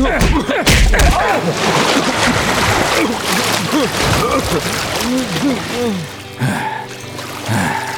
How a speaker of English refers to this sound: Smoke drove Red right into a hitch rail. It shattered, and he landed in a horse trough.